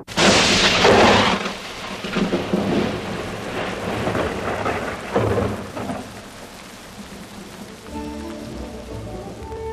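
A loud rumbling thunderclap opens over steady, hissing rainfall, followed by further rolling booms as the downpour continues; near the end a soft tonal hum rises beneath the rain.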